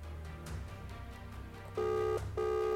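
A phone call goes out: after a stretch of low, muffled line noise, two steady electronic ringing tones sound in quick succession, clear, with no one speaking.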